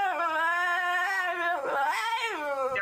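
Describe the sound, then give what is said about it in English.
A French Bulldog whimpers in a long, wavering, high-pitched whine, loud, with a couple of brief snorting breaths breaking in near the end. “So why did we dump the brave, loyal Labrador for a little dog that sounds like”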